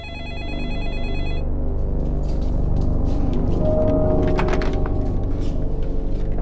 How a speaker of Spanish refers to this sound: Poco después de la medianoche, el teléfono de la casa Smith sonó de nuevo.